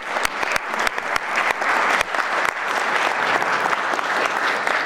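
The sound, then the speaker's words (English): Steady, dense applause from a crowd as two guests are invited up onto the stage, with many hands clapping at once and a few sharp individual claps standing out, continuing at an even loudness throughout. “Okay, let's give these guys a round of applause until they get on the stage.”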